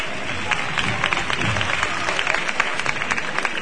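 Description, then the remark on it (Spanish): A street crowd at the Basílica del Carmen applauding steadily as the paso of the Virgen de la Paz stops, cheering its costaleros: a dense wash of many hands clapping at a fairly loud, even level throughout, with a faint murmur of voices underneath. “Ahí para el paso y nuevamente el aplauso”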